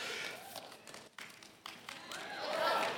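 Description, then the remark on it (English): Scattered, uneven audience clapping: a thin patter of hands that never settles into a steady rhythm, with a few faint voices mixed in, swelling slightly toward the end. “Hey man, we went over this awkward clap thing a couple Wednesdays ago when I spoke.”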